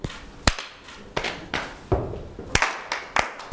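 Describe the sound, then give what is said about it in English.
A quick rhythmic body percussion pattern of clap, tap, tap, clap, slap, slap, stamp, clap, clap: sharp hand claps, lighter slaps and taps, and a low stamping thud, about ten hits in a steady groove, clear with no talking. “Clap, tap, tap, clap, slap, slap, stamp, clap, clap.”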